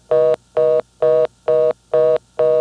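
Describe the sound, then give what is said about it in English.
Six loud telephone touch-tone beeps in a steady rhythm as a number is dialed to call up a callback circuit, each a short buzzy burst of the same pitch separated by brief silences, with no voices. “To do that, I'd call up the callback circuit by dialing 5 and then 600, followed by my last four digits.”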